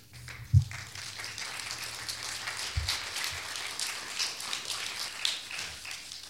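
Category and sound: crowd, audience clapping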